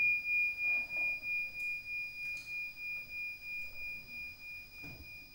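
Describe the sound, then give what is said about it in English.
A bell rings with a clear, high sustained tone that slowly fades, its sound gently pulsing and wavering as it decays. No voices are heard. “Can you listen to the sound of the bell at the same time as you're aware of the awareness that is listening?”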